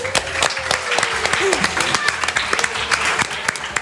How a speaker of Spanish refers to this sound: levántate y te vamos a dar un fuerte aplauso.